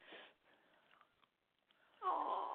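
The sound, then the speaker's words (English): A foster dog from an animal rescue whimpers and whines softly, then lets out a louder, drawn-out whine near the end. No talking. “Yes, you have to forgive my dogs.”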